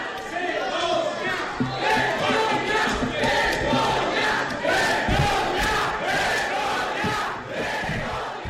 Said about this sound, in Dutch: Vergogna, schande, scandeert het publiek in de rechtszaal.